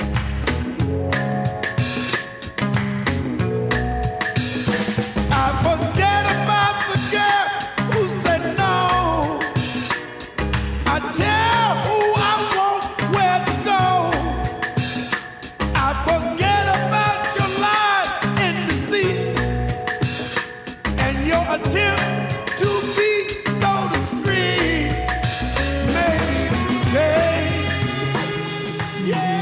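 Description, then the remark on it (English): A loud, full-band soul song plays continuously, with a male singer belting strained, raspy, near-screaming vocal lines over steady drums, bass and horns. “He was earned the nickname …, and here's why.”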